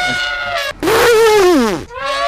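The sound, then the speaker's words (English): A voice mimics an elephant trumpeting with a loud, brassy blare in three bursts. The long middle one rises slightly in pitch, then slides down before a final shorter blast. “Okay, here's an elephant.”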